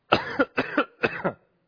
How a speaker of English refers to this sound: My throat is all scratched. Last time I was here, I had a coughing fit.